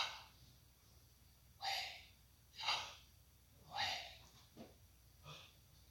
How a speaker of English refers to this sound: Now, I want you to imagine you are breathing through your mouth instead of your nose. You inhale on Yah and exhale on Way.